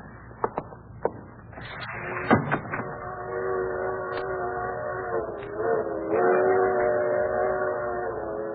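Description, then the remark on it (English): A freight train rolls past, opening with a few sharp metallic clanks before a long, droning horn chord sounds over a steady low rumble, moderately loud. “Hear that, Iris? Freight train.”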